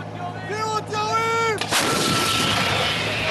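An artillery crew's drawn-out shouted warning rings for about a second and a half, then a self-propelled artillery gun in southern Israel fires a shell toward a target in the Gaza Strip with a sudden, loud booming blast that rolls into a long, rumbling roar.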